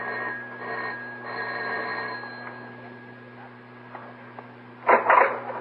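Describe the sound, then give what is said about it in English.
The doorbell of a studio apartment rings in a few short buzzing bursts, thin and tinny against a steady hum, followed by a brief louder clatter near the end. “she doesn't answer her doorbell, Mike. Try ringing again”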